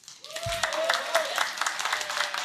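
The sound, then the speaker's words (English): A crowd applauds to show they would like a power set, such as summoning meteors from the sky, with steady, dense clapping that holds for the whole stretch, plus a faint sustained tone running underneath. “And if you guys think this is a power set or a power type that you would like, applaud.”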